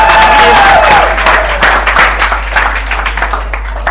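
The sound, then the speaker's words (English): A crowd applauds loudly, dense clapping filling the space with scattered cheers, then thinning into lighter, uneven claps toward the end. “Clap to me.”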